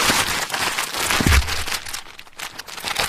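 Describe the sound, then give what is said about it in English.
Continuous crinkling and rustling of a plastic bag, taken from an opened parcel and holding a yellow, black-checked Rupert the Bear designed scarf, being handled, with irregular crackly texture and a brief low thump midway, no voices. “It's a scarf in a plastic bag, but it's no ordinary scarf.”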